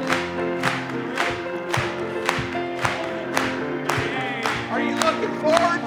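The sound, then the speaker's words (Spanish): An audience at a religious service claps in a steady, even rhythm, roughly two beats a second, over sustained music and a loud, lively background of voices cheering along. “Cuando los redimidos vayan entrando, vamos a aplaudirle.”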